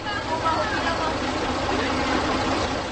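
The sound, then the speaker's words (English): An old Karosa bus, almost full and headed for the Krkonoše (Giant Mountains), idles at a bus station on a freezing day with no sun, its engine giving a steady, unbroken rumble and hiss, while indistinct voices murmur faintly throughout. “Yet the creaky old Karosa bus heading towards Krkonoše or Giant Mountains is almost full when I arrive at the bus station.”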